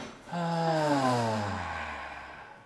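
A long exhale through the mouth during a guided breathing exercise, voiced into a soft descending sigh that fades over about two seconds, heard alone without talking.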